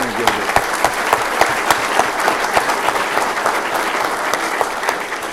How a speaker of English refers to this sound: Thank you. Thank you, Mayor. Yeah, let's give a round of applause to you.